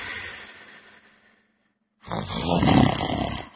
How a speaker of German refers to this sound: Aber keine Angst. Nur weil sie schnarchen, müssen sie nicht gleich ins Schlaflabor.